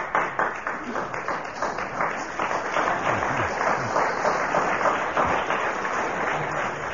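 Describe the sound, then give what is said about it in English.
Audience applause for Derek Nimmo's contribution, after the whistle has gone, fills the whole stretch, steady and moderately loud, a dense patter of many hands clapping somewhat raggedly and out of step, with no voices speaking over it. “The uneven applause there was not because they didn't wish to clap for Derek Nimmo, I'm sure.”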